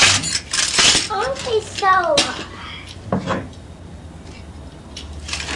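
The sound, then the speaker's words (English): Bright clinks and clatters of a glass tray and little glass dishes being handled, a few sharp knocks spread across the moment, with a child's voice briefly chattering in between. “This is a glass tray. What can you do with it? And some little dishes.”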